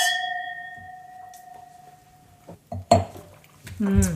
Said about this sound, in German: Prost. Und wir stoßen an. Ein Prost auf euch und euren Schilcher und uns.